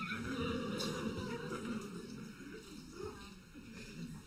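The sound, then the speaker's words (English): A donkey sound effect, for a donkey carrying Mary and Joseph out of town, a whinnying bray that carries fairly steadily over a few seconds at moderate loudness, with a dense, slightly noisy background underneath. “Yet as he was doing his very best, bless him, Mary and Joseph were on a donkey exiting town.”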